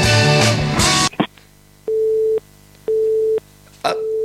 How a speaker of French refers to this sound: Petit problème technique, le téléphone raccroche